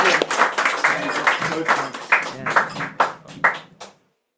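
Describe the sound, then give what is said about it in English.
An audience at a poetry reading in Cork applauds, a dense patter of many clapping hands that holds steady for a few seconds, then thins out to scattered claps and stops. “Big round of applause.”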